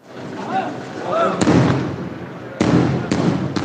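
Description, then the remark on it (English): Several heavy booms from Israeli bombing nearby, heard at a hospital in Gaza: three sharp blasts a second or so apart, each rolling into a low rumble, with voices murmuring in the background. “He said those are booms of Israeli bombing nearby, and he was watching the wounded being wheeled in.”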